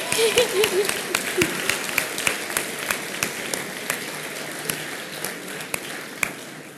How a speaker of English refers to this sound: Yeah, clap for God, man.